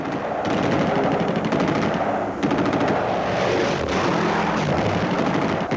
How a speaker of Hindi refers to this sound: Rafiki का विमान पिंगले और गांधी के विमान के बीच में आ गया और पिंगले के जहाज पर 6 ब्राउनिंग गन से गोलियों की वर्षा करने लगा।